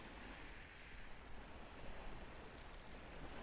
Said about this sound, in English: These waves you can hear were washing over the shingle at Deal on the 12th of August, 2021.